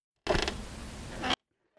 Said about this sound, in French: Une porte qui grince. Ouais, c'est ça.